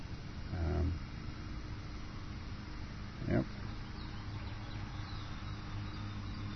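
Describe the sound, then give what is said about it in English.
A lawnmower drones steadily off to the right outdoors, a low continuous engine hum under outdoor background noise, broken by two brief soft thumps. Recorded with in-ear microphones during a recorder limiter test. “lawnmower off to the right.”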